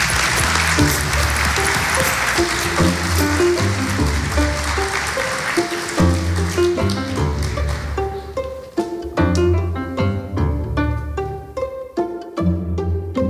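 A crowd applauds loudly and steadily for several seconds for the vice president of the La Mancha wine designation of origin. The dense wash of clapping fades as a piece of music with a clear beat rises and carries on alone.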